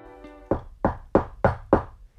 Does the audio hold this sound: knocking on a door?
yes